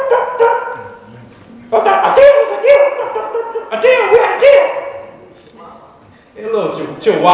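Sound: small yappy dog barking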